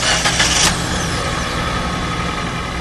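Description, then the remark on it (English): The gasoline engine of a Ford Fiesta, rated at 40 miles per gallon on the highway, runs with a brief louder surge at the start before settling into a steady, even hum with no voices. “But Ford, for example, now offers this gasoline-powered Fiesta that's rated as getting 40 miles per gallon on the highway.”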